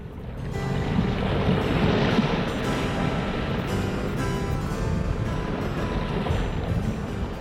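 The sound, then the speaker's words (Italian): Stormy sea on a crossing from Calais, with waves surging and wind roaring continuously, a loud, dense wash of rumbling water and gusts that swells slightly and never lets up. “S'imbarca da Calais, triste e dolente, e non gli cale del mare in tempesta.”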